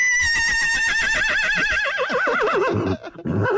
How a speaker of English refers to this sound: Like, seriously, she says nothing and the horse starts screaming.